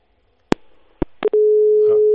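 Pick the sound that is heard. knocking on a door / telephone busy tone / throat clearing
telephone busy tone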